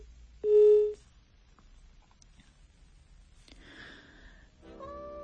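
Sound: telephone busy tone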